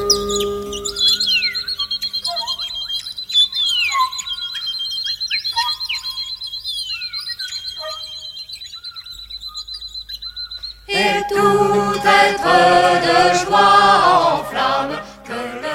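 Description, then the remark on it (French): Birds sing softly in the morning, a thin high whistling note held over repeated quick falling chirps, then a louder, busier burst of warbling song fills the last few seconds. “Et les oiseaux en leur latin chantent doucement au matin.”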